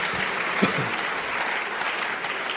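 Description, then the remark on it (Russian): A church audience breaks into sustained applause offered to God during a service, a dense, steady wash of many hands clapping at even loudness throughout, with a faint voice briefly rising beneath it. “Подари Богу аплодисмент.”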